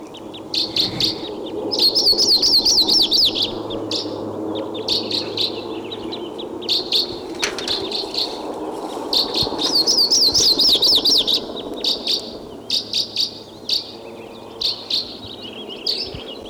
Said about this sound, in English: Now, a minute later, 716, and I hear a Type 2 crossbill coming in.